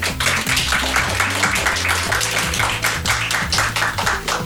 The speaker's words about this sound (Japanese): わあ、すごい、みんな目の前で拍手をしてくれてて、公開収録ね、1部2部で今が2部に来ておりますので、2部の方では結構拍手までの間がなくすぐに拍手をしてもらえて大変嬉しいですね。